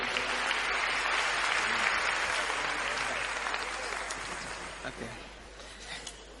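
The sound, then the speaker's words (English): A crowd applauds steadily for people coming forward to give a testimony, a dense wash of clapping that stays strong for several seconds and then gradually thins and fades toward the end, with a few scattered claps lingering. “Please clap for them as they come.”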